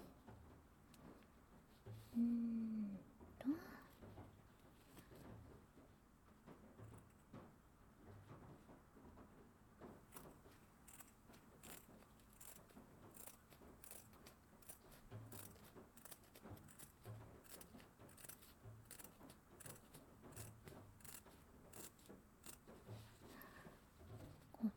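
scissors cutting fabric

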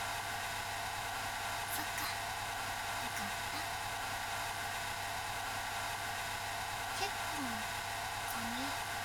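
hair dryer running

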